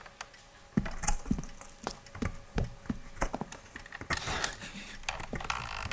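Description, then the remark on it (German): Someone fiddles with a wooden door, producing a series of irregular knocks, clicks and rattles as if the handle and latch are being tried repeatedly, with no voices. “Da war versucht jemand, die Tür zu öffnen.”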